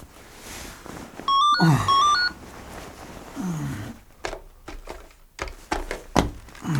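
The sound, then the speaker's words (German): A shrill electronic telephone ring sounds once at night, after 11 o'clock, a brief, loud burst of stepped warbling tones, surrounded by rumbling background noise and scattered sharp effects. “als Justus in der folgenden Nacht durch das Schrillen des Telefons aus seinen Träumen gerissen wurde”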